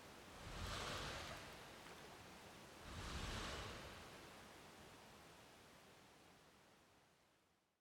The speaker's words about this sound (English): Yeah, it's another waterfall.